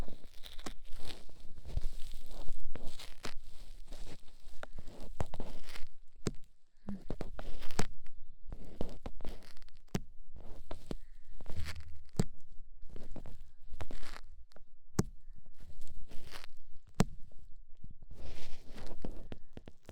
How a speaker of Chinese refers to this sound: 嗯，掏耳朵，这是你今天表现好的奖励。你看，是你喜欢的粘性棉花棒。